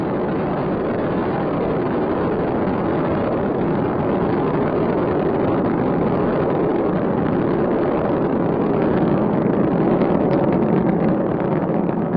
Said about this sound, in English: Three engines throttling down to 72% of the rated thrust as the shuttle goes through the realm of maximum aerodynamic pressure. Altitude 5 miles. Downrange 8 miles from Kennedy Space Center. Speed 1,500 miles an hour.